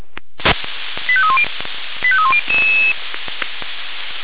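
Emergency services radio alarm tones calling out units to a tree on a line in Postendorf an der Leite: two quick runs of stepped, descending beeps, then a longer steady tone, all over a hissy, crackling radio channel with sharp clicks and no talking.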